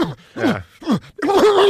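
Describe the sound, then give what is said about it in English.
A man imitates a dog with his voice: three quick, falling yelps separated by brief pauses, then a longer, strained whining howl. No words are spoken. “That's his dog impression.”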